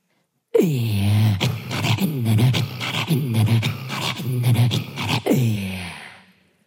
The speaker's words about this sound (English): in a wolf's cry, I can hear the loneliness of the hunter and its yearning for the freedom beyond the body. It sees the moon and wants to join it in the sky.